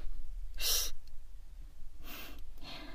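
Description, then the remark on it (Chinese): Soft snoring from someone sleeping in a library, with three breathy, rasping pulls spaced unevenly over a few seconds, fairly quiet, with no talking. “在图书馆睡觉就算了，可是你不能打呼噜呀。”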